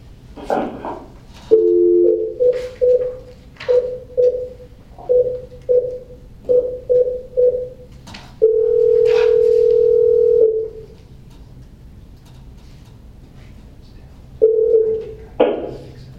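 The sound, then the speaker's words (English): A steady telephone dial tone breaks into a rapid series of short keypad beeps as someone dials to bring a participant back onto the phone during a meeting, followed by a long continuous tone, a pause, and another brief tone, all loud with no talking. “Right, we need to get Dr. James back on the phone.”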